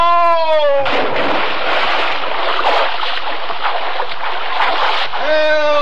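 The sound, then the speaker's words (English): A drawn-out tone slides downward, then a loud, sustained crash of splashing, churning water as a man falls overboard from a slippery deck into the water fills several seconds before a steady tone rises again at the end. “Help! Man overboard!”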